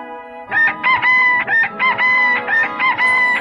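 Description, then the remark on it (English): A rooster crows loudly, its strained, harmonic call broken into a rapid series of pulsing bursts that run for about three seconds after a brief quiet start. “Up rooster.”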